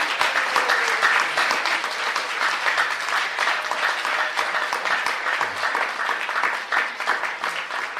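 An audience claps steadily for several seconds, a dense, even patter of many hands at a constant, fairly loud level with no voices standing out.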